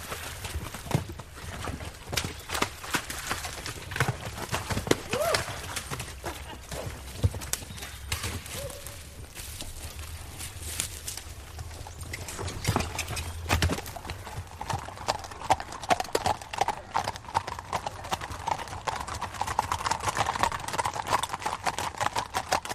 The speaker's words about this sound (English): I'm over here just the first time hunting, and I hired this horse, and it's the best horse I've ever sat on.